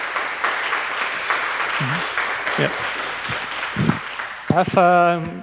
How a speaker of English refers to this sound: And otherwise, let's give him a nice round of applause for his amazing talk.